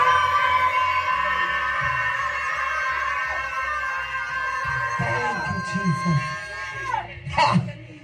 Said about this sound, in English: I want even the kids to scream because they even need to release some things.